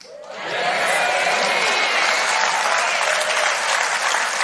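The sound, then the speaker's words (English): A crowd bursts into loud, sustained applause, many hands clapping in a dense, steady roar that rises quickly and holds at full strength throughout. “Get ready for your yes and amen really loud and get ready to clap.”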